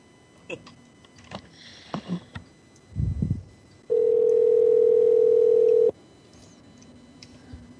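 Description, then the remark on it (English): A telephone ring tone on the line: one steady, loud electronic tone lasting about two seconds, preceded by faint rustling and a low thump, then quiet. “I like the part where the phone rings.”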